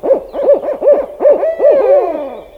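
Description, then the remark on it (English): A barred owl calls alone with a loud run of about eight bouncing, rising-and-falling hoots, the last ones stretched out and sliding down into a drawn-out, raspy ending. “Barred owls sound rowdy by comparison.”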